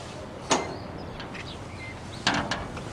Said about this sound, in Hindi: ये लो दरवाज़ा खुल गया, बस जल्दी करो, इकट्ठा करो, निकलो।